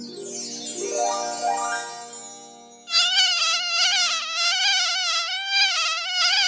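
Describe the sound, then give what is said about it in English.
A loud mosquito whine: thin sweeping buzzes at first, then a steady high-pitched drone that wavers up and down in pitch without stopping. “But, okay, we'll get Cree Summer to play the part of the know-it-all reparations mosquito.”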